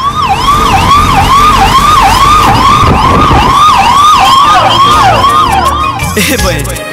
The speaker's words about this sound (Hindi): Ambulance!